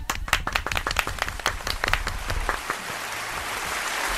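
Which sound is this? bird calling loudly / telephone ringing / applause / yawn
applause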